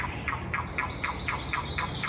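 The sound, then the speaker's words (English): A Carolina wren sings a rapid, steady string of about eight high, clear repeated notes in the foreground, fairly loud over a soft outdoor background hiss, with lower clucks and croaks of yellow-billed cuckoos calling from high up; recorded in Northampton County, with no talking. “The high clear notes in the foreground are a Carolina wren, but listen for those lower clucks, croaks.”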